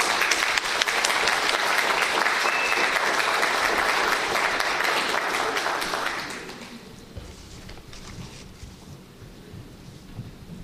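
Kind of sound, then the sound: crowd, applause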